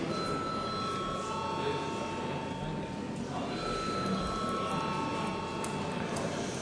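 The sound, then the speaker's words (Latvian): The Saeima (Latvian parliament) bell rings before a vote, a steady electric bell without pause for several seconds, a bright, buzzing metallic tone holding at an even loudness over a low murmur of voices. “Paldies, lūdzu zvanu.”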